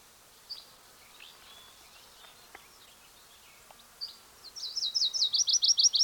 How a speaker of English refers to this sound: There's a probable Virginia's warbler singing. It's either that or a yellow-rumped warbler.